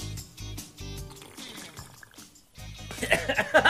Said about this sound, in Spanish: Perdón. ¿Cómo así el sorbeteo del agua, hombre?